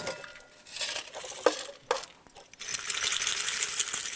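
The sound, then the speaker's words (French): Dry pasta rattles inside a glass jar, first in a few scattered clinks and bursts, then a steady, dense shaking hiss of hard pieces knocking together for the last second and a half. “Je secoue un peu.”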